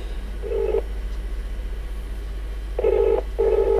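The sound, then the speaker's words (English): Telephone call tones while trying to ring someone: a short electronic beep, a pause, then two more beeps in quick succession, clear and steady over a constant low hum with no one speaking. “Trying to ring”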